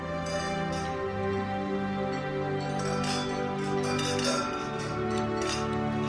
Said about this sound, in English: So, please raise your glass and help me toast to the couple of this hour and every hour,